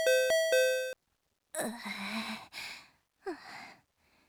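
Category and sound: household object, doorbell chime being pressed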